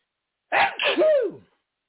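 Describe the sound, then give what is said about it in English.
A single loud sneeze with a sharp intake and explosive burst, trailing off in about a second, with no talking during it. “Bless you all, too.”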